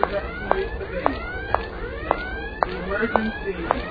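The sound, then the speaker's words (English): An alarm sounds in a video game, heard on the left of the stereo field, with sharp electronic pulses repeating about twice per second over wavering, warbling tones and a low background rumble, at a steady, moderate loudness. “Now, I can hear an alarm to my left in terms of stereo placement. and as I move forward, it gets louder.”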